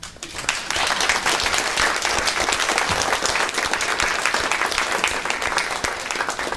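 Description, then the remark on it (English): Sustained applause from a church audience for the Sunday school children, many hands clapping in a dense, even wash that swells in quickly and holds steady for several seconds without any voices over it. “Everyone, let's give our Sunday school angels a big round of applause.”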